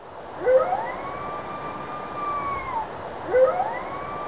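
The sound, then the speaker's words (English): A red wolf, a smaller wolf species from the southeastern United States, howls alone: a long, wavering tone that swoops up, holds steady for about two seconds, then slides down, followed by the sharp rising start of a second howl. “And to compare that, this is the howl of a red wolf, which is a much smaller species from the southeastern United States.”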